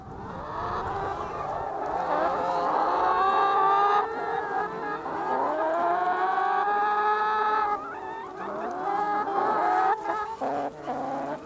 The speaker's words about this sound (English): We've 900 hens and the egg production varies depending on time of year. Time of year and heat. They don't particularly like that hot heat that we've had the last couple of weeks. They're enjoying the soft ground there now, as you can see there.